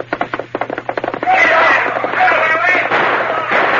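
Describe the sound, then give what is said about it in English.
A rapid volley of gunshots as outlaws fire at the Lone Ranger riding his horse Silver, about a dozen sharp, loud cracks in quick succession, gives way to a steady rushing roar laced with high whining tones. “Bending low over the pommel of the saddle to avoid the flying bullets, the Lone Ranger urged his gallant horse to greater efforts.”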